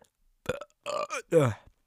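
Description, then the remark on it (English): A second voiced burp rolls out in several quick, gurgling bursts over about a second, fairly loud, with no talking around it. “That was burp number two.”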